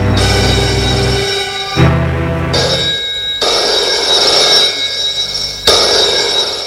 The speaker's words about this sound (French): Le téléphone sonne.